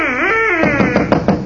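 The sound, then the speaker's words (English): A turkey-bone duck call, used to lure ducks by imitating a duck's mating call, is blown: one loud, reedy, wavering note that breaks into a quick run of short, raspy quacking blasts. No one speaks. “That noise was a duck call”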